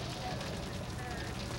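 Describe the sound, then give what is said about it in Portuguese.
A grass fire burns with a dense, continuous roar and crackle, loud and steady throughout, with a faint mechanical hum in the background, as firefighters quickly burn off the grass between their trucks and an advancing fire. “O que ele está fazendo é tentar queimar rapidamente a grama entre os caminhões e o fogo.”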